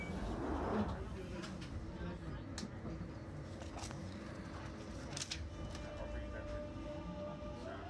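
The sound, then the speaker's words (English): Steady, loud rumble of a London Underground train carriage in motion after London Bridge, on a service terminating at Stratford, with a continuous low roar, faint whining tones and occasional sharp rattles and clicks from the tracks. “Oh, the motion of the train feels so good.”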